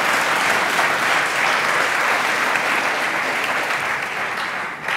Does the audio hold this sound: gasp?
no